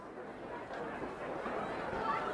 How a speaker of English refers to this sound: But there is a buzz in the ballpark tonight that has been absent for the first three games.